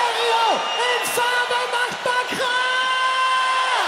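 A huge crowd of around 80,000 at the Wacken metal festival roars and yells without pause during a live-broadcast band performance, a dense wall of voices with individual whoops sliding down in pitch rising out of the steady cheering.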